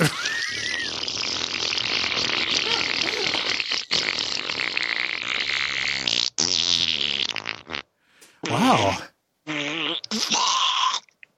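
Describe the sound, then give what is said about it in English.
A long, loud, sputtering fart rumbles on for several seconds, then breaks into shorter bursts and ends in a high, squealing squeak. Someone briefly exclaims at the end. “Oh yeah, no, at the end there your butt just kind of screamed a little bit.”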